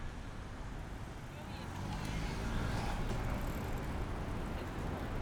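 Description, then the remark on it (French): Cars slowly pull away at a green light on Rue Dufour at the Carrefour Mabillon in city traffic, at 9:40 in the morning on 19 May 2018, their low engine rumble swelling louder after a couple of seconds and holding steady. “Rue Dufour, le feu est au vert. Les voitures commencent à rouler lentement.”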